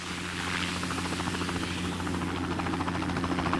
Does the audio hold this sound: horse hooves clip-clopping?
no